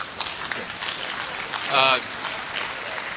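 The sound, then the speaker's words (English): A crowd applauds with a steady wash of clapping for a few seconds, and a brief voice rises over the noise partway through. “Number one, just a reminder.”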